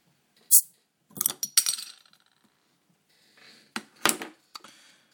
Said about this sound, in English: And so this is the Meantime Pilsner. Here I go with opening it.